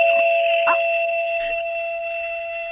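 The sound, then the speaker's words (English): An odd electronic doorbell chime rings with steady, high sustained tones, punctuated by a couple of short yelping, bark-like bursts, fairly loud, with no talking. “A crazy doorbell.”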